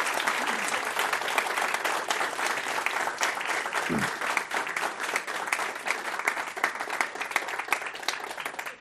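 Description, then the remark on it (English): Sustained applause from an audience at the Commonwealth Club of California for Bruce Hamilton, Deputy Executive Director of the Sierra Club, at a program on the Sierra Club at 125 years: a dense steady wash of many hands clapping at once, loud, continuing without pause for several seconds. “A big hand of applause and thanks to Bruce Hamilton.”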